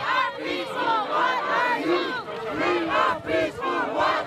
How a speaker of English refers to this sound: One group locked arms around one of the big diggers while police on horseback rode in to try and contain the crowd. Tensions ensued, followed by scuffles between police and demonstrators, accusing them of being too heavy-handed.